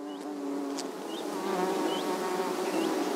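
A dense, steady drone of many honeybees buzzing around a hive opened by a beekeeper in Morocco, continuous throughout, with a few faint, brief chirps in the background.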